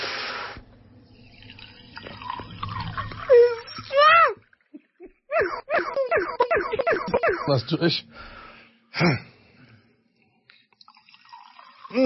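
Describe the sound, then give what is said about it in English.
Champagne glugs and splashes as it is poured into a glass for a birthday, a run of quick bubbly gurgles followed by a softer fizz, with people talking before and after. “Can you hear the bubbles, man?”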